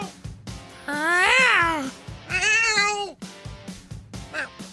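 A cat meows twice, two loud, drawn-out meows with a rising then falling pitch, separated by a short pause, over a faint rhythmic background.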